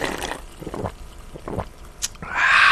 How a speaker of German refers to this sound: Schlucken, das kann doch jeder.